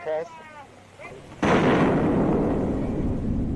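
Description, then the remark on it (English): A massive nuclear bomb blast erupts suddenly after a brief, faint tonal lead-in, then swells into a loud, continuous roaring rumble that carries on without fading through the end. “There was one measure that they were especially interested in: the debris from a series of massive explosions, the fallout from nuclear bombs.”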